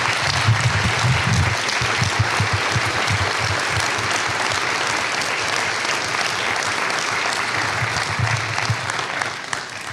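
Dense, sustained audience applause fills the whole stretch, a steady wash of many hands clapping at an even, loud level with no break or voices standing out.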